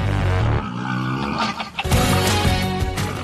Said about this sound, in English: it sounds like the hyenas and the wild pigs that are in there are almost musical collaborators. They're responding to the energy of the music.